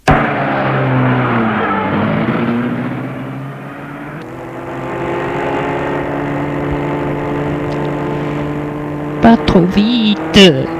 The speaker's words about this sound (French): Bruno va ouvrir la portière de sa voiture. Aidé de l'infirmière, il dépose sur le siège Florian et se met à la place du conducteur. Et la voiture démarre.